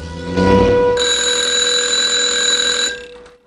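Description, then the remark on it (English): A telephone rings loudly and steadily for about two seconds at home, a bright continuous electronic ring, preceded by a brief low rumble and fading out at the end. “Margot comes home and answers her phone”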